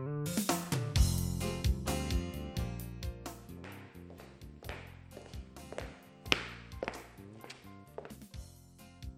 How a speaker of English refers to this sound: I hear someone walking.